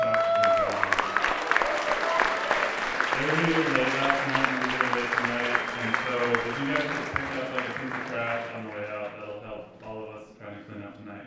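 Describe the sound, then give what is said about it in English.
A festival crowd at Cute and Awesome Fest claps loudly and steadily for about eleven seconds, with shouting and whooping voices rising over the applause before it thins out and fades near the end. “could you guys give them a big round of applause?”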